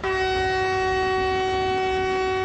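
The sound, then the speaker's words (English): A vintage train carrying journalists on a Pakistani military tour of Pakistan's frontier with Afghanistan sounds one long, steady whistle that holds loud for the whole moment, with a low rumble of the train running beneath it and no voices. “Pakistan's military went on a PR offensive last weekend, taking journalists to its frontier with Afghanistan on a carefully choreographed tour by helicopter, land cruiser, and even by vintage train.”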